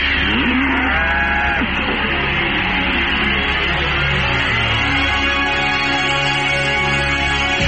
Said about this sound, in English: Okay, let me just play in the jingle for you. Hang on. Okay. Cow.